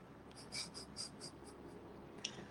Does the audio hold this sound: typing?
yes